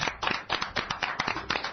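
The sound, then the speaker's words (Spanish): Steady, brisk clapping with sharp claps arriving in a quick, even rhythm, like a small group applauding on the radio programme Game Over. It sounds fairly loud, with no voices over it. “¡Ole, un aplauso para Wasabi al 8!”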